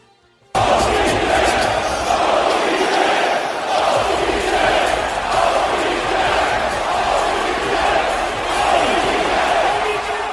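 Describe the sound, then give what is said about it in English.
A large basketball arena crowd at a Dallas Mavericks game roars and cheers continuously as Odell Beckham Jr., sitting courtside, is zoomed in on; a loud, dense wash of voices with occasional shouts and thuds, starting abruptly after a brief quiet moment. “In fact, he drew a lot of excitement at a Dallas Mavericks game sitting courtside when the crowd zoomed in on Odell Beckham Jr., who was wearing some weird varsity Letterman designer jacket.”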